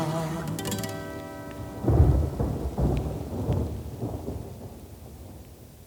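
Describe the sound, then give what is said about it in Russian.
A deep peal of thunder rolls in after a few sustained tones, rumbling loudly in several heavy surges before fading away, with a soft rain-like hiss underneath. “До боли мне знакомы, в небесах раскат грома.”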